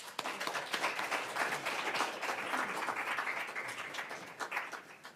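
An audience applauds steadily for about five seconds for a person who has just been introduced, a dense wash of many hands clapping at fairly even loudness, with no one speaking over it.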